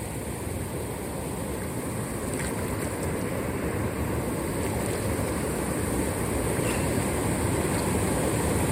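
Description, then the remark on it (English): Clean water in Colombia flows steadily, moving fast enough but not super fast, in a constant, unbroken rush with a soft churning texture that stays even throughout. No voices are present, and the sound holds at a moderate level without breaks. “So the water, again, it's clean, it's refreshing, it's moving, you know.”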